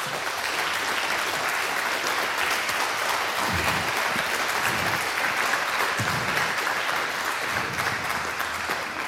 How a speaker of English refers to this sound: I would say, let's first start with a big round of applause.